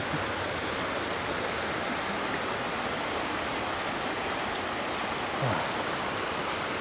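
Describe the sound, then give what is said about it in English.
A steady, even wash of white noise from Chub Creek, a river about 30 feet wide or more, fills the whole stretch, unchanging in level from start to finish, with no voices or other distinct sounds standing out. “It's the kind of sound that you can just go to sleep by, isn't it?”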